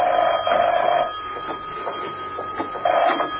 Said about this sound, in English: When he entered his apartment, the phone was ringing.